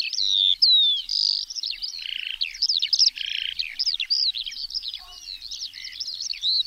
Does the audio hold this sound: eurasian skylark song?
yes